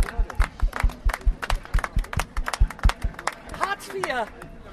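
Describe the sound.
An audience applauds a performer from the Improkocken with loud, rhythmic clapping and scattered cheers, the claps falling in a steady beat while voices call out and whoop over them.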